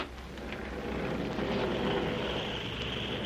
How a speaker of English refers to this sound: There's an airplane flying around this room.